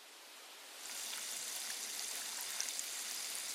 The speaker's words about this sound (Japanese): それでは、炭酸泉でお流ししますね。